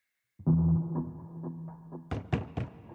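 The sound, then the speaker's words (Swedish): A low, resonant hum, then three quick, firm knocks rapping on a farmhouse door in close succession near the end, loud, with no voices. A neighbour girl, sent to the farm around 7 o'clock to buy milk, is knocking. “När en grannflicka som skickats till gården vid 7-tiden för att köpa mjölk knackar på är det ingen som svarar.”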